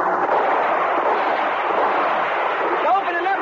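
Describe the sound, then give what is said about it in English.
A shootout between police with a SWAT team and smugglers during a bust: a dense, unbroken roar of heavy gunfire runs at steady loudness for the whole stretch, with a few thin rising chirps slipping in near the end. “Well, give him some cover fire.”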